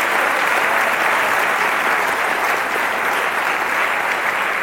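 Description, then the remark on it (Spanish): An audience claps in a steady, dense wash of applause given to Jesus, loud and sustained for several seconds without any voices standing out. “Sí, dale un aplauso a Jesús, nuestro Señor.”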